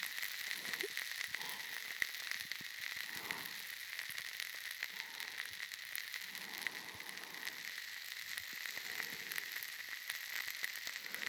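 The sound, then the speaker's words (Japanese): A dense, continuous fizzing crackle like carbonated bubbles bursting, countless tiny pops over a bright, hissy sheen, holding a steady, fairly loud level throughout with no voices. “ほら、頭の中がじゅわじゅわってはじけてるみたい。脳みそ炭酸に浸してるみたいでしょ。”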